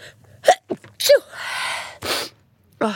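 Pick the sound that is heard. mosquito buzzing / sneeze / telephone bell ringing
sneeze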